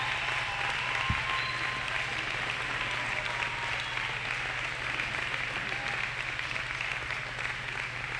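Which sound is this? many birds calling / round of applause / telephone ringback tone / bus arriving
round of applause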